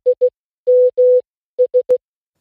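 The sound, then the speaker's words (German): A Nokia mobile phone SMS ringtone plays alone: a clean, steady electronic tone beeping short-short, long-long, short-short-short, spelling SMS in Morse code, loud. “Es ist der SMS-Klingelton eines Nokia-Handys.”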